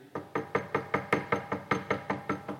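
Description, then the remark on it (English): A rapid series of about eleven firm knocks on a house door by a man, evenly spaced, with no voices. “I literally got up out of prayer, got to my feet. I went to the door. I opened the door.”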